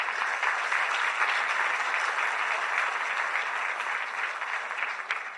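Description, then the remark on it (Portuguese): An audience claps steadily one afternoon in applause to the Lord Jesus, a dense, sustained wash of many hands applauding at an even loudness for several seconds, tapering only slightly at the end, with no voices standing out. “Quantas cartas aqui nesta tarde podem dizer amém, vez mais e aplaudir ao Senhor Jesus?”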